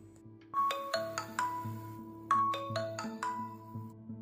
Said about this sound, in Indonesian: Nada ponsel berbunyi. Sebuah notifikasi masuk.